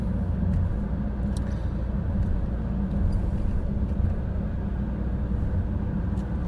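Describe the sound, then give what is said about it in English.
A steady low engine rumble and road noise from inside a car moving slowly in slow-moving traffic on a fairly wide road with long bends, with a few faint clicks and knocks over the continuous drone and no talking. “Slow-moving traffic. Come on, you've got another 10 mile an hour to play with.”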